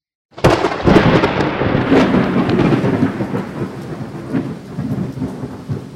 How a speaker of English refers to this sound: The dragon had brought rain to end the drought. Do you hear the thunder and rain?